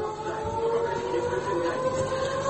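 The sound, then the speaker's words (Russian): An air raid siren wails continuously, a sustained droning tone that holds steady and loud for the whole stretch, with no voices over it. “Миша рядом, сирена орет.”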